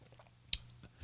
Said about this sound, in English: I have a cough button as I take a drink of water. Pardon me.